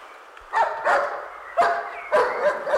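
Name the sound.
loud dog barking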